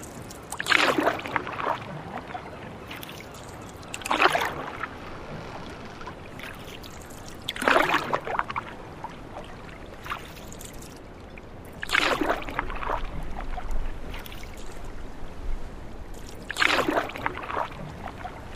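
Oars dip and pull through water in a slow, steady rhythm as a man rows a small boat, each stroke a soft splashing swish about every four seconds, with a faint lapping between strokes and no voices.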